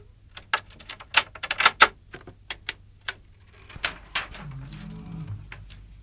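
A run of sharp knocks on a door, irregular and clustered in quick bursts, the loudest in the middle, followed by a softer low wavering groan or creak.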